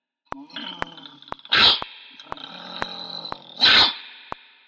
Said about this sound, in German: Ein Hund bewachte das Haus. Doch glücklicherweise hatte Parmetella noch ein Stückchen Brot einstecken und sie gab das Stück Brot dem Hund. Und er fraß es gerne.